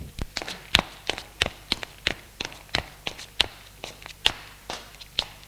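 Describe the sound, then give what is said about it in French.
Footsteps climb a flight of stairs, going up one more floor to an attic, at a steady, brisk pace, a dozen or so crisp taps and thuds, with no voices. “Il monte un étage de plus.”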